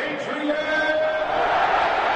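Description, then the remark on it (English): A crowd roars in a loud, sustained vocal cheer, a dense wash of many voices shouting together at steady volume throughout, with a few higher sustained yells rising above the din. “And participate in that cheer.”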